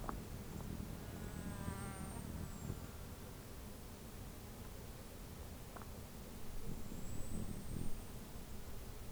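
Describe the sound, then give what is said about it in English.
A bird's diving display: two faint, high-pitched arcing whistles several seconds apart, the first with a brief buzzy tone, over a steady low rumble and insect-like hum. “That was a dive.”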